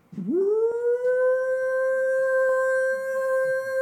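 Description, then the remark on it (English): An air raid alert sounds on phones during a Bible study graduation gathering. Its wail sweeps upward in pitch and then holds a loud, steady tone for several seconds, with no voices. “As we are gathering for this graduation of the Bible study, the air raids on our phones happen.”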